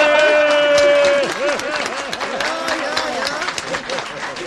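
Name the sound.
applause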